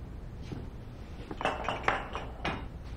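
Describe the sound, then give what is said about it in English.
Empty ceramic mugs clink together as they are carried in from the porch, in a quick, irregular cluster of bright knocks, with a few softer taps and rattles between them over a low background hum. “carries in empty mugs from the porch.”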